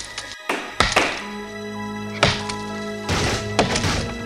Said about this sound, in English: They were laying down huge chunks of wood on the floor and pounding huge nails into the pieces of wood to attach them to the ground. And that was the noise they were hearing, was the giant hammers hitting the huge nails.